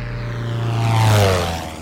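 propeller airplane flying overhead

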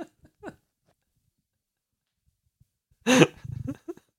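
yawn

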